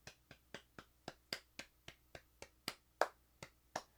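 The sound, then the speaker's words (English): Applause made of crisp, evenly spaced claps, about four per second in a steady rhythm, moderately loud with no voices over them. “Wow, that was really good applause.”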